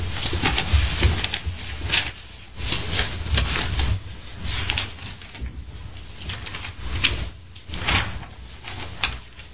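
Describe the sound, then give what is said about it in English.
Many Bible pages rustling and flipping at once as people turn to Luke 22, a steady papery shuffle with overlapping crisp bursts that swell and fade over several seconds, with no talking. “We know them, but I like to hear the pages turning.”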